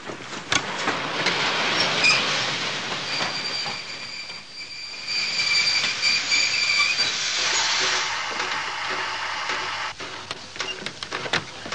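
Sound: train stopping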